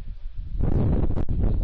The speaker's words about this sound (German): Es windet, wie man hört.